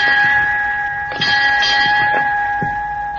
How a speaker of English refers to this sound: Right on time. Who rang those bells? Curly Kleinman, my guess. Or one of the Lascars? No, they have to stay on the stern. The bell's on the bridge.